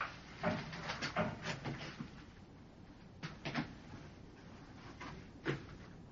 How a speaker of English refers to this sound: I'm merely testing the strength of the door. For the 15th time.